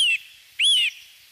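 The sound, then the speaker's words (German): Two high, thin whistling calls from a bald eagle: a brief one cut short, then a longer rising-and-falling squeal, clear with no voices. “Ein Weißkopfseeadler ist das.”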